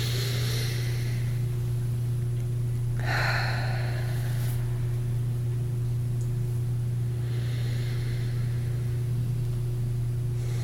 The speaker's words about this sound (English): And he suggests that we begin with just intentionally taking a long, deep breath. Breathing in, feeling the lungs, feeling the whole, the breath in the abdomen. Breathing out. And do that once, twice, or three times.